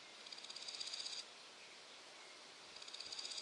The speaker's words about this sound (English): Grasshoppers rub their back legs against their abdomen, making a noise.